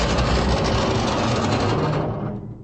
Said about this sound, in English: Finally, the electric mole breaks through the floor of the central hall in Ming's palace. The door opens, and the three emerge from the metal burrowing machine.